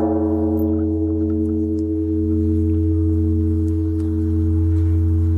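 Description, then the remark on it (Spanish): A Buddhist temple gong, a ceremonial percussion instrument of Korean Buddhism, gives a deep, steady resonant hum, holding one low pitch with rich overtones and loud throughout, with no clear strike or fade and no voices. “Estos son los monjes cantando y estos son los famosos gongs.”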